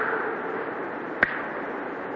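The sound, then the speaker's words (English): A single short, soft slap of a bloody sheepskin against Adam's leg as he goes down the path through the Garden of Eden, landing once in the middle over a steady background hiss, with nothing before or after it. “Bloody sheepskin slapping on Adam's leg as he went down.”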